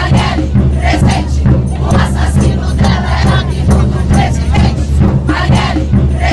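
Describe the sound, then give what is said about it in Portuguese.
A large crowd of Marcha Mundial de Mulheres protesters in São Paulo shouts the chant "Fora Bolsonaro" together during the movement's fifth international action, in a steady, rhythmic cadence, many voices loud and dense throughout, with a constant low rumble underneath. “Além de cobrar justiça e relembrar o nome de Marielle Franco, militantes da Marcha Mundial de Mulheres gritaram fora Bolsonaro durante a quinta ação internacional do movimento.”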